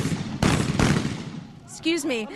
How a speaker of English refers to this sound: People are literally running in here, and the sound that you can hear behind me of shooting is celebratory gunfire.